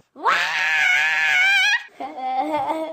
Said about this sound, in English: Number 3. Sometimes you just gotta scream.